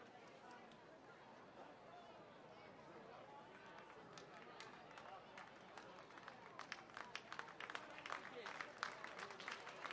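A baseball crowd at Medlar Field murmurs, then breaks into rhythmic clapping that builds steadily louder toward the end, the sharp, evenly spaced claps ringing out over the background noise.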